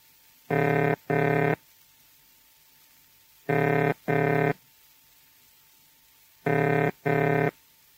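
telephone ringing tone

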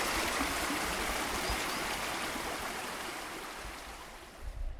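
flowing river water

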